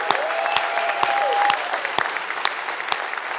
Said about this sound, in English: And I want you to give a big roaring applause for Roane County, who's joining us out there.